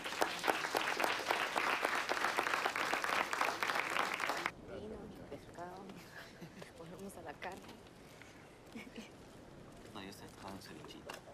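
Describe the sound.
A burst of audience applause, dense and loud for several seconds, then cutting off abruptly as a voice begins speaking over a quieter background.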